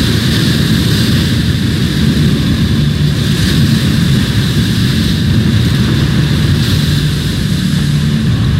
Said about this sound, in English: Church Rock, Pembrokeshire, on a midwinter morning. An Atlantic storm blows in on the wild Welsh coast. With it come waves up to 10 meters high.